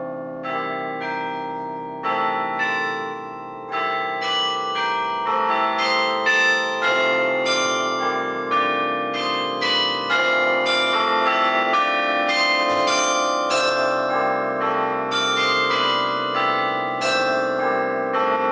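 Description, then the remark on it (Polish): Carillon bells, fixed in place with only their clappers linked to a keyboard, ring out in a steady melodic sequence as a carillonist plays, many bright tuned strikes overlapping with long shimmering resonance, played continuously and fairly loud with no voices. “Dzwony karilonowe są przymocowane nieruchomo i tylko serca dzwonów, które oczywiście mają specjalnie określoną wagę, połączone są właśnie z klawiaturą i my właściwie gramy sercami.”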